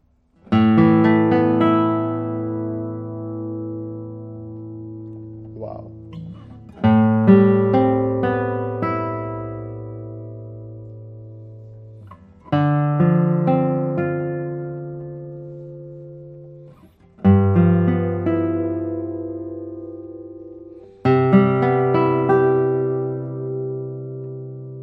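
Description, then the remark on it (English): Five chords are played one at a time on a guitar numbered 282, each ringing out with long, slowly fading sustain before the next is struck. The notes sound rich and full, with no talking over them. “The sound of this guitar is absolutely high quality.”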